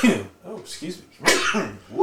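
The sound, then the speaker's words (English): A single sharp, explosive sneeze bursts out, with short breathy, voiced sounds before and after it. “I don't think this, I've ever sneezed on air before.”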